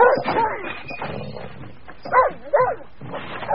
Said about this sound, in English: Immediately, a volley of fierce barks came from the shed.